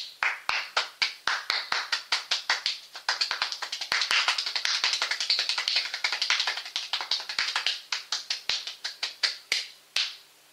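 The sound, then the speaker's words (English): Rapid hand clapping demonstrating a fast clapping technique, in quick, rhythmic bursts, speeding into a dense, almost continuous flurry midway before loosening back into distinct claps; fairly loud, with no talking. “So when you do that, you want to clap, then you want to reverse it.”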